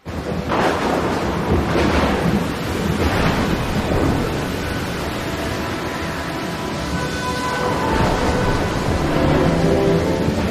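A violent storm roars without pause, heavy waves crashing repeatedly over a constant howl of wind, with deep rumbles of thunder rolling underneath. It is loud, and nobody speaks.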